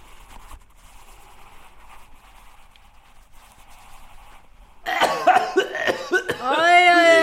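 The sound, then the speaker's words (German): After a quiet stretch, a person coughs several times in quick, loud bursts, then a voice begins speaking. “Sie haben ja auch Husten.”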